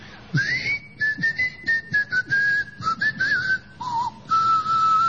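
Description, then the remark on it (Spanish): Inhabitants of the island of Trakova, said to lie in a sea next to the Pacific Ocean, whistle instead of speaking: a rapid string of short, pitch-gliding phrases like a whistled language, each burst rising and falling before the next. It is clear, with no talking. “A poco de llegar a Trakova, se escuchaban los silbidos de los habitantes.”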